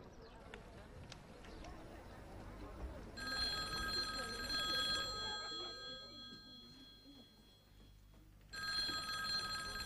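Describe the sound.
A telephone rings in two bursts of bright, trilling bell tones, the second starting near the end, over a room full of murmuring voices and low background bustle.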